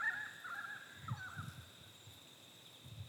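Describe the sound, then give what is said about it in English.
Faint bird calls ring out early, then scatter in short bursts over a steady high-pitched outdoor drone, with soft low rumbles underneath; birds and frogs are calling. Quiet, no voices. “The birds and the frogs.”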